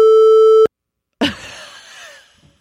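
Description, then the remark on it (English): A single loud, steady censor bleep covering a spoken word, a flat mid-pitched tone lasting just over half a second, cuts off abruptly; after a short silence, a brief noisy burst follows and trails away. “is beeped.”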